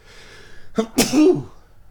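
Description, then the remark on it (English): A single loud sneeze: a short sharp inhale followed by a forceful burst of breathy noise that trails off into a brief voiced tail, with quiet before and after. “Yeah, so I sneezed.”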